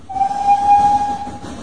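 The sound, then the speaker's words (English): A steam train into Kilchester rumbles along with a loud, steady whistle held for about a second over hissing steam and a low mechanical chug. No voices. “And so I caught the train into Kilchester to call at the offices of Breather and Scuttle, the estate agents where James Bentley had once worked.”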